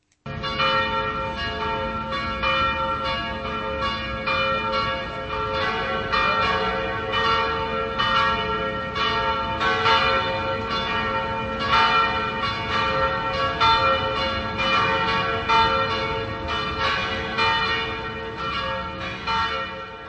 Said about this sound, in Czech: Na veřejných budovách byly vyvěšeny státní vlajky na půl žerdi a přesně ve 12 hodin se v celé zemi rozezněly na několik minut kostelní zvony.